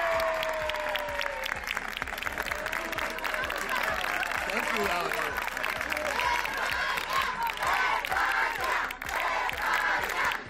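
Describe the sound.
In his village of Valle de Santa Ana, a dense crowd cheers and claps as an 80-year-old man, found after going missing, steps down from an ambulance, many voices loudly shouting his surname together over steady, sharp applause that runs the whole time.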